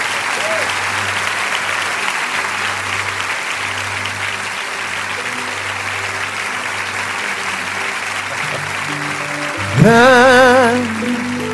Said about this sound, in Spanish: Amén. Un aplauso para ellos.